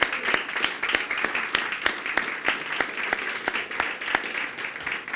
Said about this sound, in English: And I think it's I think we got to give a big round of applause to all the helpers of VBS. It's been amazing.